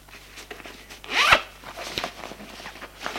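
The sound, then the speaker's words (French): A single suitcase zipper is pulled open in one fast, rising rasp that peaks in the middle, as a woman opens her suitcase to take out her toiletry bag and a bathrobe, followed by quieter soft rustling and small handling noises. “Une fois la porte fermée, elle ouvre sa valise”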